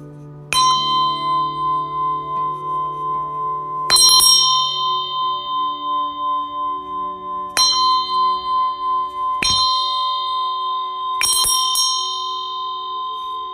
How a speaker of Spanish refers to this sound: Puedes hacerlo incluso tocando tus campanas en casa.